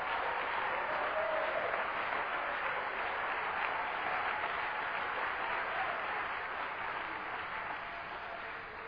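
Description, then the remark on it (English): An audience at a Pentecostal church service claps steadily and densely for several seconds to glorify the Lord, a continuous wash of many hands applauding together, holding strong throughout and tapering only slightly near the end. “My Lord, somebody clap your hands and glorify the name of the Lord.”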